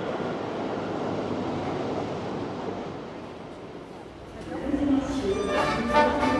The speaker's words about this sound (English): Although time has stopped here, the metro trains running nearby have not. Watching lighted trains from afar in the darkness, it's as if you can hear Paris's heart beating, regulated by its central nervous system, le metro.